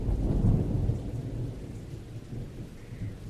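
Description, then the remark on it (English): Steady rain hisses continuously while a deep, rolling rumble of thunder swells early on and then fades into the background. No voices, just the even wash of falling rain. “A light drizzle had started to fall, and what had been a rather warm day was turning into a chilly evening.”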